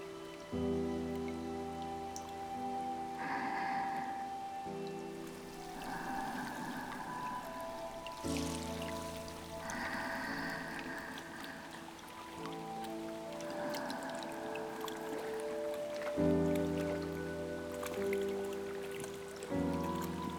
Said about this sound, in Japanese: いい音でしょう。川のせせらぎ